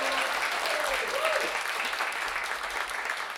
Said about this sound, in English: They've got one more tune for y'all here today, but I think we need one more round of applause